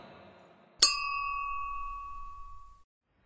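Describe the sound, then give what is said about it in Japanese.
A single bright clink of glasses touching in a toast, followed by a clear ringing tone that sustains and slowly fades over about two seconds, heard alone without any voices. “君モル雑談に乾杯。”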